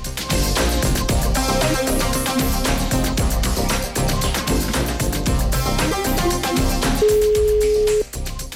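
A single steady telephone ringback tone after dialing a number sounds for about a second near the end, sitting over loud, busy background music that fills the whole clip.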